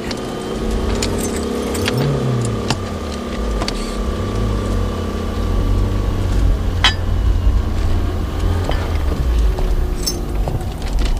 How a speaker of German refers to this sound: Die beiden Autos jagten so schnell es ging dem Transporter hinterher.